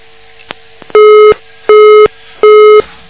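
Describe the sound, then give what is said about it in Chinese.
A telephone busy tone on a radio listener call-in line, after an incoming call cut off the earlier calls, beeps three times in a steady rhythm, each loud, even tone lasting about a third of a second with equal gaps, preceded by a few faint clicks on the line. “哎呀，后面打进来那个厉害了，把前面两个电话都卡掉了。”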